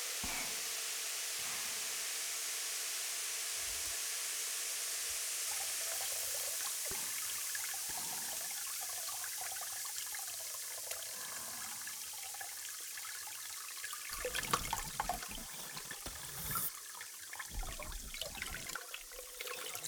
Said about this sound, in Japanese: お客様、頭浸浴というのは額のあたりからお湯を流して髪の毛をお湯に浸すというものです。このお湯にこちらの炭酸タブレットを入れることにより、しなやかな髪になります。